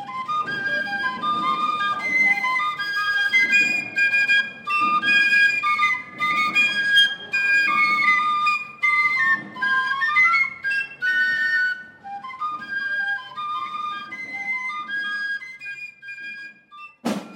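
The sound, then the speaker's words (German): Shrill carnival piccolos play a brisk march melody, two pipers in unison with rapid runs of notes as they accompany someone walking back to a hotel, over soft low rhythmic thuds, stopping abruptly near the end. “Ich gehe zurück ins Hotel und freue mich, dass zwei von den Pfiffern mich offen begleiten. Natürlich mit einem Lumpensammler.”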